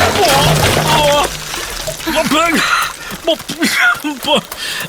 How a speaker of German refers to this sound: Das gibt es doch nicht. Jetzt sind alle Wassereimer komplett über mir ausgekippt. Ich bin klitschnass.